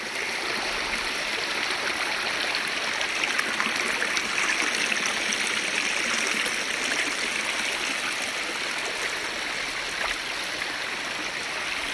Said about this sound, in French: Cette petite musique est un souvenir de vacances de l'été 2023. Cette petite musique pourrait être la bande-son des premiers vers du sonnet de Rimbaud, Le Dormeur du Val, souvenez-vous. C'est un trou de verdure où chante une rivière,